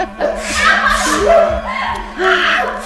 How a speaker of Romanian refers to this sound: Trânti în botul vulpoiului toată făina pe care o avea în tigaie. Și acesta orbit începu să strănute.